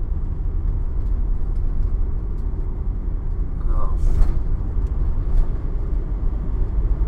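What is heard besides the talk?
road traffic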